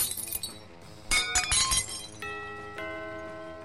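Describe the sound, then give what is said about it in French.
Dishes smash in a quick series of sharp, crashing bursts, followed by bright ringing tones as broken pieces clatter and settle. No one speaks. “Tu vas voir où elle va passer, la vaisselle.”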